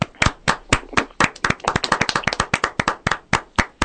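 A small group applauds with sharp, overlapping hand claps, starting as a few distinct claps and building into a dense, uneven patter for several seconds. No voices are heard.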